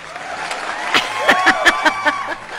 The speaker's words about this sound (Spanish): Ahora el aplauso va a ser doble para nosotros